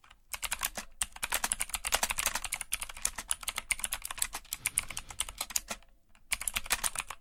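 Rapid, clattering keystrokes on a computer keyboard, fairly loud, in dense irregular bursts with a couple of brief pauses and no voices.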